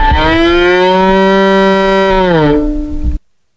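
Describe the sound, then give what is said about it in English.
A bowed violin mimics a cow's moo with one long, loud, sustained note of about three seconds that sags downward in pitch near the end, then cuts off abruptly. No one speaks. “For example, he is playing the sound that a cow would make on his violin.”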